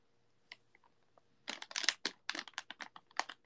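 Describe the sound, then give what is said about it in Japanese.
A few faint ticks, then loud crinkling and tearing of a Crunky chocolate bar wrapper in irregular crackly bursts as it is pulled open. No one speaks. “まあいいや、クランキーチョコレート食べとこう。”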